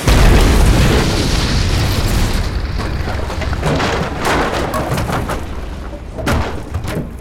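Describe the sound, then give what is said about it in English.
A loud crash-landing boom into a snowdrift hits at once, followed by a long, heavy rumble and scattered crackling debris that slowly fade, with no voices present. “Your crash landing flung me spread eagle into a snowdrift.”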